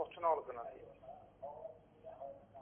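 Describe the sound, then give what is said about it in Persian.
Thin, phone-filtered voices with a muffled, boxy quality: a television playing at a caller's end in Dasht-e Moghan, heard over the telephone line during a call-in program, coming in uneven bursts at moderate level. “لطفا صدای تلویزیون رو ببندید، با تلفن با من صحبت کنید که مشکل در ارتباط نداشته باشیم.”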